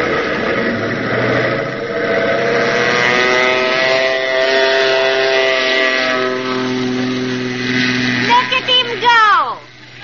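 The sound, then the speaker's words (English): A small government plane's engine drones loudly and steadily, its buzzing tone slowly shifting in pitch as it revs for takeoff with McGee aboard, then wavering and sputtering briefly near the end. “Did you see that takeoff?”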